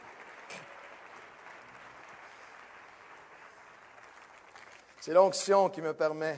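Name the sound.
audience applauding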